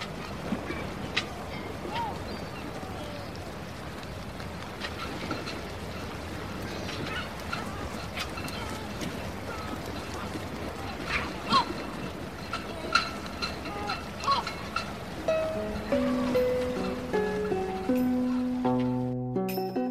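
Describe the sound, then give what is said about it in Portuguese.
Steady outdoor ambience on a boat out on Inle Lake, water lapping and splashing softly throughout, with scattered calls of waterfowl and a few clear melodic tones rising near the end. “E seja em cima de um templo, ou neste caso, neste barco, esperamos que desapareça aquilo que nos faz cá estar.”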